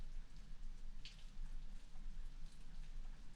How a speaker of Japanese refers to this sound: あ、雨降ってきちゃった。